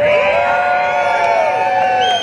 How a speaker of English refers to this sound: Can I hear you all scream on the count of three? Just scream on the count of three. One, two, three.